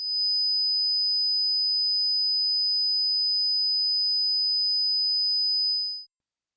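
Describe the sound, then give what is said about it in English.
A single steady, high-pitched pure sine-wave test tone holds unwavering at constant loudness for about six seconds, then stops abruptly. No voices or other sounds accompany it. “This is 1,000 Hz. This is 5,000 Hz.”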